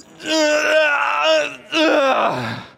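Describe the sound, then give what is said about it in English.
Two long, drawn-out vocal groans from a person doing a giant stretch after the morning alarm goes off: the first steady and strained, the second rising then sliding down in pitch as it trails off. Fairly loud, with no speech. “It's always got to be the giant stretch, right? And you got to let out a little noise with it too, right?”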